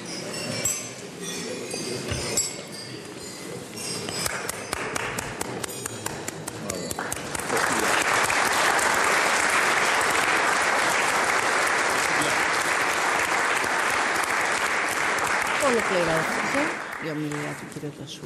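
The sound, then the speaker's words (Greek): Applause from a crowd after a toast to the President of France and the French people swells into a loud, dense wash of clapping that holds steady for several seconds, with glasses clinking and murmuring voices underneath before it tapers off. “Χειροκροτήματα”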